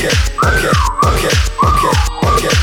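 whistling

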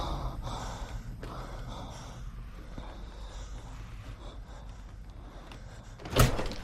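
door being opened

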